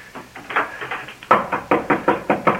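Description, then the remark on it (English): Rapid, steady knocking on a door in a building, a dozen or more raps that start fairly soft and then turn louder and more insistent, with no voices alongside. “Open the door, Sky, it's Harry.”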